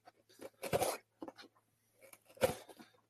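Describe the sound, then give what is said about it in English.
Arsenal Battle Braid scissors slice through packing tape on a Mystery Tackle Box box: a few scratchy ripping strokes, with two louder tearing bursts separated by quieter rustles, and no talking. “So we're going to grab our Arsenal Battle Braid scissors to pop the tape on this.”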